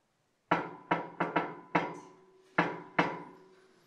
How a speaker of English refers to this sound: It's not a secret knock. It isn't. He's there. That's him. He's talking to you. He wants to come in.